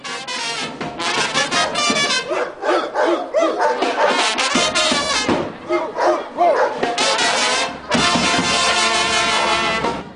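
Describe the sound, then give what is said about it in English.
A crowd of people loudly barks like dogs back at a dog, at the place in a song where everybody barks, in ragged, overlapping bursts, the voices energetic, with brief pauses between volleys of imitation woofs and shouts. “And there's a place in the song where everybody barks. So everybody stopped and barked back at the dog.”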